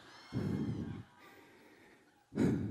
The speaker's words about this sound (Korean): 숨소리가 너무 나니까 마이크를 살짝 교체하도록 하겠습니다.